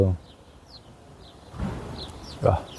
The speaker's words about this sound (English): I feel I'm in the woods. Birds are singing here.